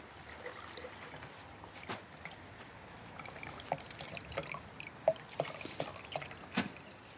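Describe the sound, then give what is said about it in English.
Water being poured into tahini, heard as a soft trickle with scattered small splashes and drips at irregular moments, fairly quiet, with no talking. “And I'm going to add the water to my tahini.”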